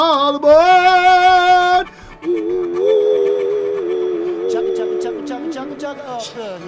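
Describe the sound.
A voice imitates a steam train whistle, starting with a long, loud steady hoot, then a wavering, sliding whistle-like tone held for several seconds, with faint clicks near the end.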